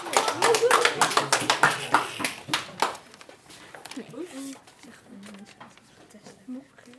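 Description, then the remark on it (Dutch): Audience applause on the Radio Oranje radio programme, introducing the segment Dingen van de Week: a dense burst of sharp claps that fades out after about three seconds, followed by quiet voices talking. “Applaus, dames en heren.”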